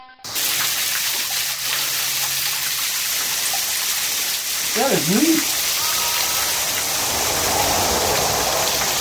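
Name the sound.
rushing waterfall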